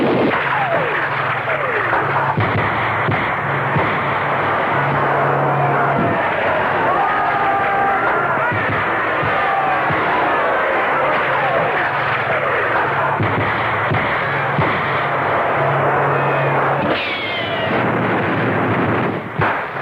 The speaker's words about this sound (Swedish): General de Gaulle fortsätter till Hôtel de Ville och till Notre Dame. Det var här tyska krypskyttar och franska förrädare utförde hjältedådet att plötsligt öppna eld mot de försvarslösa folkmassorna.